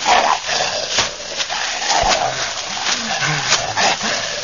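A large dog gives a series of short, gruff barks mixed with low whining whimpers, loud against a rough, noisy background, with no one talking.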